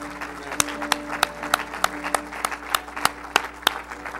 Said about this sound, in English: Let's give God one more hand clap of praise before we're seated.